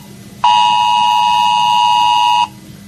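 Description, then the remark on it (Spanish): A loud, steady electronic alert tone from a mobile phone emergency alert, a test message of the 112 Extremadura mass alert system for emergencies and catastrophes, sounds for about two seconds, harsh and buzzy, then cuts off abruptly over a faint low background hum. “Es posible que te llegue un pitido a tu teléfono móvil.”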